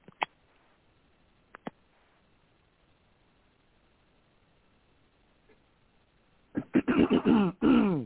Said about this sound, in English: I'm purposely clearing my throat.